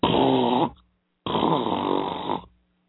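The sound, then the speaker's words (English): Two loud, honking nose blows, each lasting under a second with a brief pause between them, harsh and buzzy with a wavering nasal tone. “I'm sorry, I gotta blow my nose again.”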